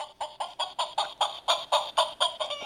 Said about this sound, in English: So if you want a sound effect and you don't know how to use your computer to do it, you have to bring in your own noisemakers. Now, I have many such noisemakers. For example, there is the sound of a chicken clucking.